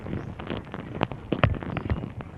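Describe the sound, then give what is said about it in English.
Dense, restless crackling and scratching from between 100 and 200 small dung beetles pushing material around, moving, burying and mating inside a cowpat, picked up on a hydrophone put into the cowpat, with irregular louder pops and clicks scattered through a constant rustle. “That's tens, possibly somewhere between 100 and 200 small dung beetles, all pushing material around inside the cowpat, moving, burying, mating, generally getting on with things.”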